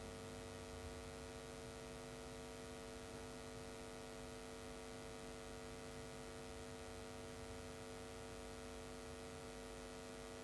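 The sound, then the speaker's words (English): A steady, low electrical hum from the lights and AV equipment in a quiet Dharma hall, with faint buzzing harmonics, drones on unchanging throughout. “Just the gentle hum of the lights, of the AV equipment.”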